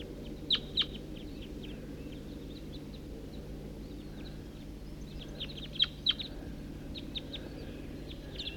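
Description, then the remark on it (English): A flock of about eight crossbills calls while foraging in a tree on a hilltop: sharp, high chip notes in quick pairs and scattered bursts from several birds, heard over a steady low rumbling background with no talking. “I'm on my way up to the hilltop and I see a whole bunch of crossbills foraging in a tree right here.”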